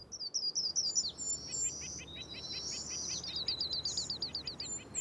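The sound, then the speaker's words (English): Several birds sing at once in a forest, with rapid repeated chirps and whistled phrases overlapping, some bright, others softer, over a steady hiss of insects. “66 years ago, in 1959, you might have heard a completely different song.”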